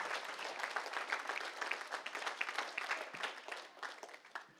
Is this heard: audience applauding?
yes